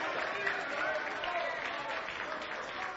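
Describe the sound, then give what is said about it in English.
A church audience claps hands in worship of the Lord Jesus, a steady, dense wash of applause lasting a few seconds, with a crowd of voices mingling underneath at an even, moderate loudness. “It's the Lord Jesus wants you to raise your hands and clap your hands and worship and give God your voice and your praise.”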